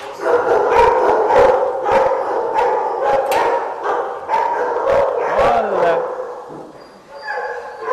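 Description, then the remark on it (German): Several dogs in kennels bark loudly and continuously over one another at visiting people, sharp barks overlapping with drawn-out howls and yips, a dense echoing chorus. “Aber nicht alle Hunde freuen sich über Besuch. Viele verbellen Menschen”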